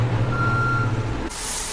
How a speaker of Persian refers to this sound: لیفتراک جنازه ها رو میبره.